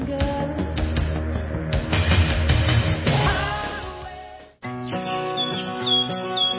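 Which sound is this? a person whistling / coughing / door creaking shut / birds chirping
birds chirping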